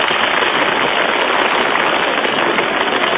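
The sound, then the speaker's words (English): An audience applauds steadily for contestant number 4 in a vote by applause. The dense, crackling wash of many hands clapping stays at an even loudness throughout, with no voices standing out. “Please do not whistle or shout. Simply applaud.”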